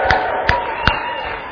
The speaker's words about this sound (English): And when these people are baptized, we are going to cheer them loud. Let's practice one time. Woo-hoo!